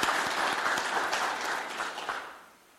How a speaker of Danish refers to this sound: Så vi vil give dem en klapsalve for alt det, de har gjort.